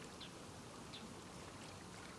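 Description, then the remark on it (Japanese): Soft, steady sloshing of water in a foot bath aboard a train, a continuous gentle wash with a few faint light splashes, heard quietly with no voices. “ほら、足湯の水音に耳を澄ませながら私の体温も感じてください。”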